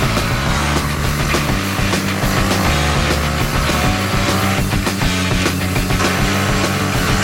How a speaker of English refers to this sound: There goes the engine.